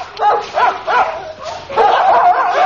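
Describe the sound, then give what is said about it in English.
Dogs trained to track down parachutists bark loudly in quick, repeated bursts, the barks running together into an overlapping, yelping chorus toward the end. “Your dogs have got very loud voices, sir.”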